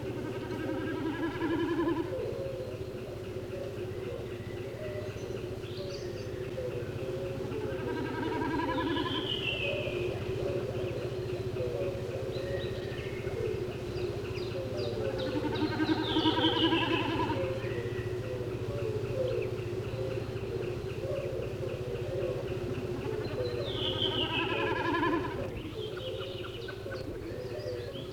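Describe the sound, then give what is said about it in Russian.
A snipe calls again and again in short rhythmic bursts of clipped, ticking notes, some sliding downward in pitch, over a steady low hum with no talking. “Это голос бекаса.”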